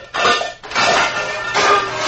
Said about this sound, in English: I'm just getting some pots out of the cupboard. Sound as if you're getting them all out and all over the floor. Sorry if I disturbed you, dear. I didn't think they were going to fall.